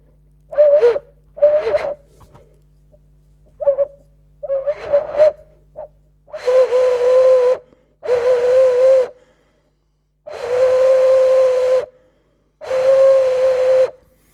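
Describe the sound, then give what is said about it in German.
A hollow resonator, about the size of a hen's egg and larger than a quail egg, is blown by mouth. It gives breathy, hooting tones at one steady mid pitch: several short airy puffs, then four long sustained whistles with pauses between. Fairly loud, no talking. “Also der ist, also mit Mund anblasen ist nicht so gut, wie wenn man es akustisch anders anregt.”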